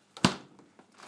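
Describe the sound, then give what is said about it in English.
A freezer door in a home kitchen pulls open with a sharp, rustling thump, followed by softer scuffing before it shuts again with a second muffled thud a moment later. “Freezer.”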